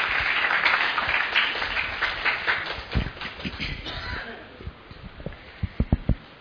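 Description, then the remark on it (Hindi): An audience bursts into dense, loud applause that gradually thins out, ending with a few scattered individual claps. “हाँ, ताली बजा दीजिए उनके लिए।”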